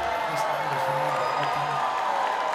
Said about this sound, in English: So what I'd like to do now is y'all give yourself the quietest, loudest hand you've all had, because I'm sure all of you woke up with hangovers.